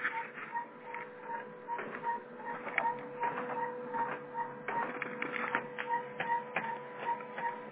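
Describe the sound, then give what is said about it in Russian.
A printer churns and clicks as it fails to feed paper even though paper is loaded, with a steady motor hum under irregular mechanical clunks and faint repeated beeps, no voices. “Загрузите бумагу. У меня бумага загружена.”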